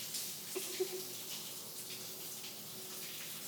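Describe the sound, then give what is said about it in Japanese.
Shower water sprays steadily, a continuous airy hiss of water rinsing body soap off skin until no foam remains, with a couple of faint splashy taps early on and no voices. “泡もついてないし、こんなところかな。ダメだよ、シャワーだけで終わらせないの。”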